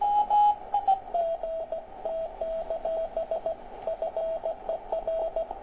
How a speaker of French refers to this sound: C'est un Hongrois. C'est un Hongrois qui discute avec une autre station radioamateur en code Morse.